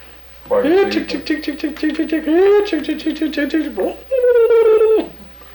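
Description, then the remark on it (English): A voice calls to chickens with a quick run of repeated, sing-song syllables, then finishes with one drawn-out, steady call. “What about calls for chickens?”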